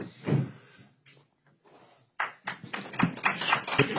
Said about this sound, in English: Hold the applause, please, so the others can speak.